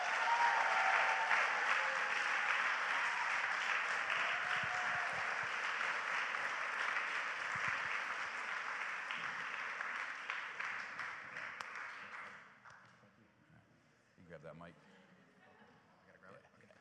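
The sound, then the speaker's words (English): Sustained audience applause welcoming a guest surf instructor, a dense wash of many hands clapping at steady loudness for about twelve seconds, then tapering off quickly into quiet with a few stray claps. “I cringe when people clap for me.”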